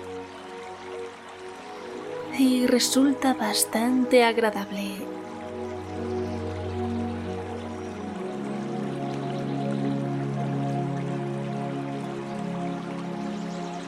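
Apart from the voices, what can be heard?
flowing stream water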